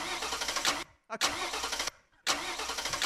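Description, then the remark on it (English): A flooded car engine cranks in three loud, grinding bursts separated by short pauses, turning over each time without catching or settling into an idle. “I think your shiplander is trying to start the ship. You know what? I think it's flooded.”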